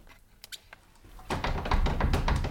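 A few light clicks and taps, then a sustained burst of rattling and clattering as the handles of an apartment's doors are jiggled and tried, the latches knocking against locked doors.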